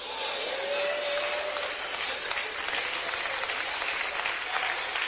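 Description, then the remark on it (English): An audience claps steadily throughout, the claps coming from one section of the audience, a dense, even patter of many hands that holds at a fairly loud level for several seconds without pause. “I think all the claps are coming from this section right here.”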